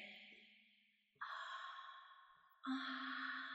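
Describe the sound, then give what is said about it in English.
Slow, warm, wet breaths exhaled into the listener's ear, three long airy puffs in a row, each swelling in quickly and fading gradually, with no talking. “I'm breathing my warm, wet breath into your ear.”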